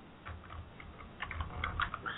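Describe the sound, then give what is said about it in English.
Quick, uneven clicking of keys on a computer keyboard as someone types in a chat room, fairly quiet, with short bursts of taps and brief pauses between them. No voices. “I was just typing in the chat room for people.”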